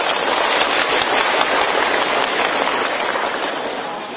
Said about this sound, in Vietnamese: Quý vị có đồng ý thì xin cho một tràng vỗ tay.